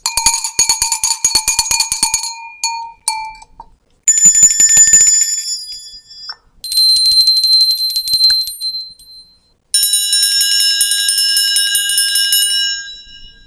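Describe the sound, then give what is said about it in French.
A series of different kinds of bells ring one after another in four bursts separated by brief pauses, each with bright, metallic tones of varying pitch. Fairly loud, with no talking. “Les différentes sortes de cloches.”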